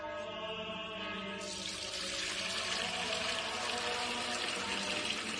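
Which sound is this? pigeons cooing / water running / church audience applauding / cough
water running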